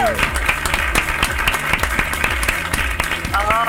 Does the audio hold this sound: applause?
yes